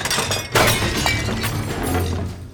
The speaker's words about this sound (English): Kono knocked the bowls off the table.